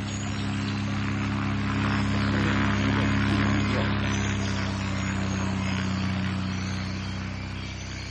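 A float plane takes off in a remote forest about a day upriver from a village, its propeller engine roaring steadily in a loud droning hum with a slight swell and fade over several seconds, no voices heard.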